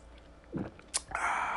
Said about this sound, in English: In fact, I'm going to take a sip, which is very unprofessional, but I'm going to do it anyway.